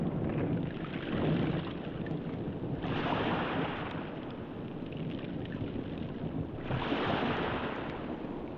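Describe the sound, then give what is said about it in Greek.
Water sloshes and laps continuously against a hull, with periodic swells of brighter splashing about every four seconds, over a steady rush of wind. No voices are heard. “Νερό.”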